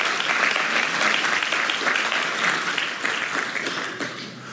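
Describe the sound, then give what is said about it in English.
A crowd applauds steadily for several seconds, a dense, even wash of clapping hands that stays loud throughout and tapers slightly at the end. “Yeah, we can clap for that.”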